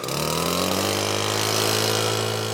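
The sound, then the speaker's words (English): A man fires up his leaf blower to get back to trail work; its small engine roars to life, the droning pitch climbing quickly in the first half-second before settling into a loud, steady, buzzing whine with no voices. “And with that, he fires up his leaf blower and gets back to work.”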